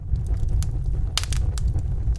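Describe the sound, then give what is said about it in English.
A campfire crackles steadily, with sharp irregular pops and snaps over a low, constant roaring rumble of flames, fairly loud with no voices. “The campfire greets us with a happy crackle.”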